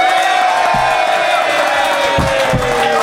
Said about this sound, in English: I would like you to applaud now.